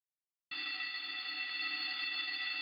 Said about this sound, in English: A bell signaling the beginning of third period echoed through the halls of Smiley Junior High